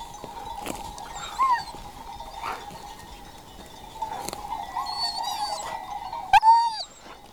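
A flock of ewes moving along a ridge and around a summit outdoors, guided by a shepherd and her working dog: scattered sheep bleats, a steady ringing of bells, and sharp intermittent sounds from the dog, with a louder burst of bleating near the end.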